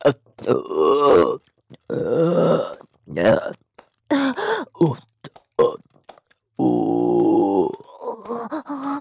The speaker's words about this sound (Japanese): また出る。ゲップが出ちゃう。